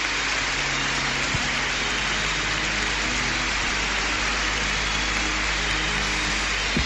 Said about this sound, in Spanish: Ovación para José Mazuelos, gran ovación. Nos unimos también desde COPE Canarias a esta ovación a nuestro nuevo pastor. Es un momento emocionante. Sí. Se acerca al altar ahora para agradecer con un leve gesto de cabeza estos aplausos.